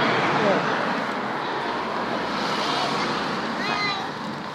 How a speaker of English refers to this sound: Here comes the bus, finally.